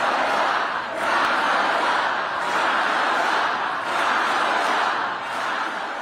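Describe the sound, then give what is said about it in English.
A raucous crowd of thousands cheers and roars continuously for Vice President Kamala Harris at a rally in Battleground, Wisconsin, a loud, dense wash of voices that swells in waves, with shouts rising out of the steady din. “The likely Democratic presidential nominee, Vice President Kamala Harris, was cheered by a raucous crowd of thousands in Battleground, Wisconsin.”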